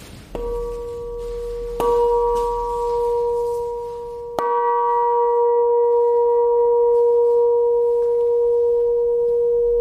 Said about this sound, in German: Die Aufgabe der Glocken ist ja zu rufen, die Gemeinde zu rufen und zu erinnern an das Gebet.